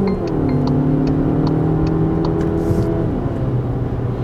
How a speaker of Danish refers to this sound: I kan høre, benzinmotoren er ikke gået i gang endnu. Men nu træder jeg på speederen, og så er den der selvfølgelig med det samme. Og det tager altså ikke lang tid at komme op i fart.